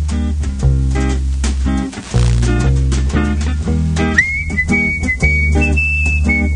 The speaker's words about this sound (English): Well, I wish I could whistle like that. No chance.